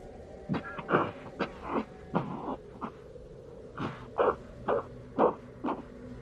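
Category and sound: human body sound, cough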